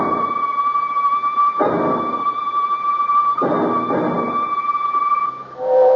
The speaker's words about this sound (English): Made it to the station on time, Loveday. I think that's your London train coming in.